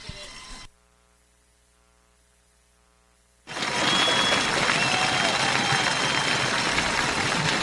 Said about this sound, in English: Ladies and gentlemen, please stand up and give baseball moms everywhere a big round of applause, and players, turn around and tip your caps to the moms of the game, whose unconditional support has carried you here today.